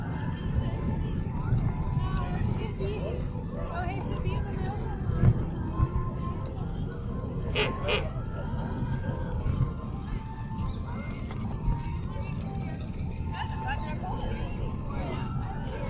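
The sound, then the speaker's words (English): A bus engine rumbles low and steady for the whole stretch, a dense continuous drone with a few brief higher clanks and whines rising over it. “That's the bus.”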